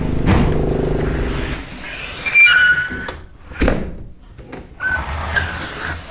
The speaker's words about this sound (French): Nous avons été cambriolés. Ah, oui. Et la porte était neuve. Hein. Ah, oui. Et depuis lors, elle grince, quoi.